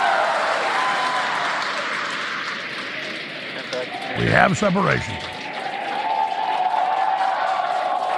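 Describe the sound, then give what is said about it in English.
A crowd cheers and applauds continuously at a rocket launch in a broad, noisy roar, with a brief louder swell of voices midway, while a person speaks over the clamor. “You can tell by the cheers behind us and the views on your screen.”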